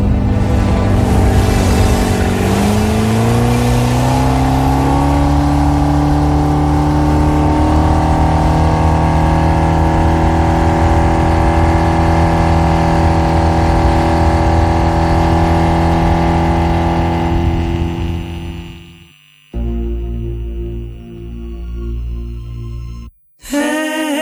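A loud car engine revs up and holds a high, droning roar for most of the time, then cuts off abruptly before a lower idle and a brief gap.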